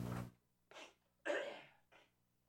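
A man coughs four times in short, harsh bursts, the third the loudest and longest, with brief pauses between them, close by and with no talking.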